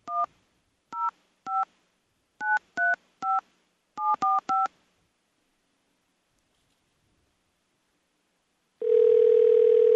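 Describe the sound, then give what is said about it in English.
A rapid series of about eleven short touch-tone beeps, each a dual-pitch phone keypad tone, entered in quick irregular groups as a parking ticket number is typed in on a call to pay a parking citation in Denver, followed after a pause by a steady telephone tone. “Please enter your parking ticket number or stay on the line.”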